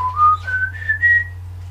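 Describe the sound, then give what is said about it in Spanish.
A thin, eerie whistle, the famous whistle of the El Silbón legend, rises slowly in pitch across a few sustained, wavering notes, heard alone over a steady low hum. “Por el camino comenzó a escuchar el famoso silbido, que ya lo habíamos escuchado.”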